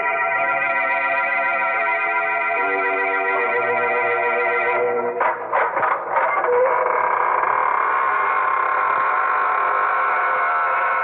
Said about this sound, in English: Hello, this is your host, welcoming you through the squeaking door.